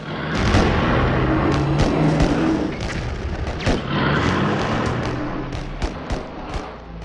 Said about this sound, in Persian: زیر آتیش سنگین توپخانه دشمن خاکریز می ساختن